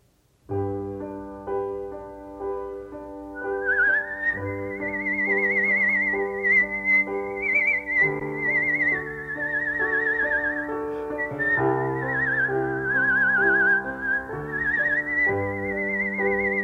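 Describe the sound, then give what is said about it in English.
A person whistles a slow, sustained melody over steady accompanying chords, the whistled tone gliding smoothly between notes, clear and prominent throughout with no talking. “And whistling is capable of being much more private than singing because you can make whistling often quieter.”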